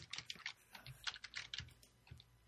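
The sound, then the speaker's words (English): Rapid, irregular clicking of keys on a computer keyboard, fairly clear, with uneven bursts of keystrokes and no voices. “Sorry, I was typing.”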